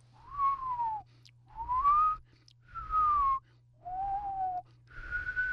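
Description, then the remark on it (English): A person whistles an imitation of winter wren song slowed to about quarter speed, in five drawn-out phrases, each a sliding tonal note with pauses between, fairly loud over a low steady hum. “to hear the song of the winter wren slowed down to, let's say, a quarter speed.”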